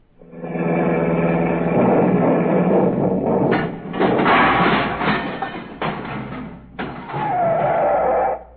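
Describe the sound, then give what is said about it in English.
A sound effect of a car engine droning steadily, then loud crashing thuds and clattering bursts as a car sent over from a showroom drives into an office, ending in a descending whine and rumble. “Hello, showroom, send a car over to my office right away.”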